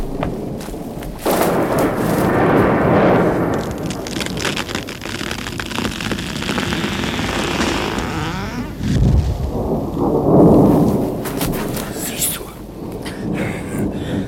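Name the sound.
thunder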